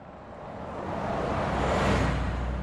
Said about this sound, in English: People don't usually stop in Moneygall. The traffic just thunders through this small, impoverished town. It's one straight road lined with rather humble dwellings.